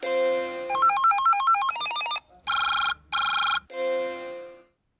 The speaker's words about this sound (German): Also Telefon klingeln oder so und dann Telefon klingeln? So ein Sound vielleicht von einer Nachricht oder sowas. Genau, wenn eine E-Mail reinkommt